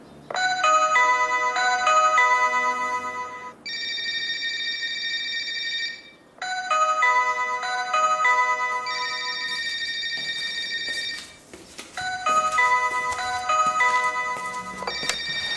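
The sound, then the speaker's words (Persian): A bright electronic ringtone melody plays loudly and repeatedly from a phone being called, with tonal beeping phrases that pause briefly and restart, with no talking over it. “به تلفنم زنگ بزنه.”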